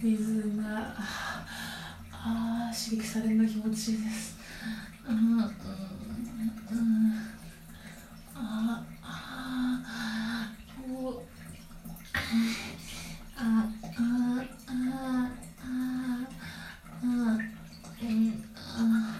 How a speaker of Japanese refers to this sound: 座ってる状況で、シャワーをクリトリスに当てて、右手でシャワーのノズルを持ってクリトリスに当てて